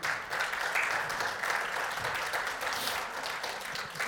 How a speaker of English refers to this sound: By the way, a big round of applause for the AV team. They scored today.